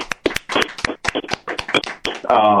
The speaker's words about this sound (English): Round of applause, Blue Apron, please.